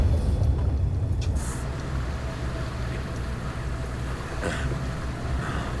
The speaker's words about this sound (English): The boat nears the island.